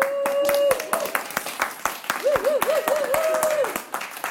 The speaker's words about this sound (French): Ouais, on vous remercie. On peut s'applaudir.